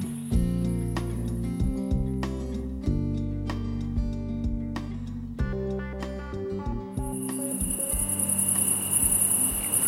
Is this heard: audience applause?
no